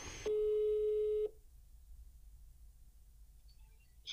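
telephone ringing tone

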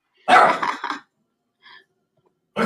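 dog barking

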